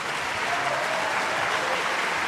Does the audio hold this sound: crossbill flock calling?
no